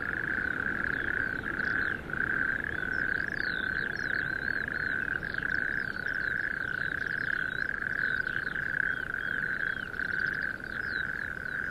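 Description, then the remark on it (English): A dense, continuous chorus of toads trilling steadily without pause in sandhills, loud, with faint bird-like chirps flickering above and no voices. “Maybe I'm becoming obsessed by singing toads and wicked golfers, a peculiar modern-day fairy story, perhaps an allegory for our times.”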